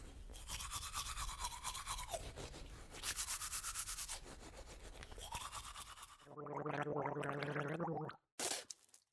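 Brisk toothbrush scrubbing with toothpaste in three bursts of bristly back-and-forth strokes, followed by a loud gurgling gargle of water and a short final splash or spit.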